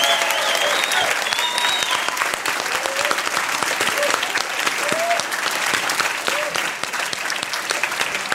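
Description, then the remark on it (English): Sustained audience applause for a panel and the audience themselves at a live CanadaLand show in a packed room in Halifax on a Friday night: a dense, steady crackle of many hands clapping at even loudness throughout, with a few faint whoops and cheers rising briefly above it. “A round of applause again for our panel and for yourselves.”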